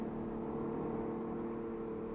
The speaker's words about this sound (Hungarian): Jaj, nekünk, jön már a busz.